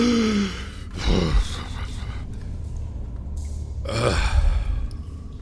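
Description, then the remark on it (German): Heavy breathing: two loud, ragged breaths a few seconds apart from someone catching their breath while sitting on a row of bricks beside water standing on the ground, over a low steady background hum. No one speaks. “Ich setze mich auf die Ziegelreihe, die da an der Seite von dem Gewässer ist, das am Boden steht, und schnauf erstmal durch.”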